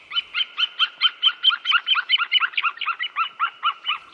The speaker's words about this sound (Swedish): Nu är vi inne i en djup skog och från en trädkrona hör vi en duvhök. Det är inte olikt havsörnens kacklande läte som vi hörde i början och som kommer här igen.